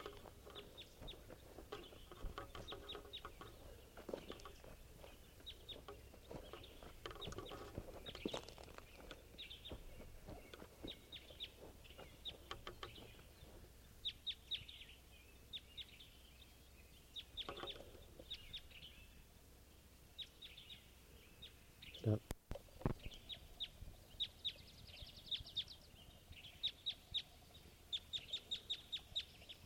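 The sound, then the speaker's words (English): A red male wild-type bird gives repeated clucking, fowl-like calls in irregular bursts over a steady low hum, with one sharp click partway through and no talking; recorded at 7:16 a.m. “And there's a wild type 2 here. Step. Wild bird. It's a red male.”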